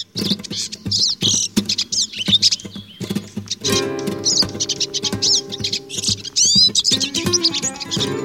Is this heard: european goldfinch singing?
yes